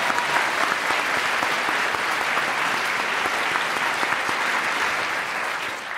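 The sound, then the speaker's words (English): Sustained audience applause for a couple's wedding anniversary at a live show, a dense, steady patter of many hands clapping at once that holds at a fairly loud level for several seconds before easing slightly at the end. “Give an applause for them.”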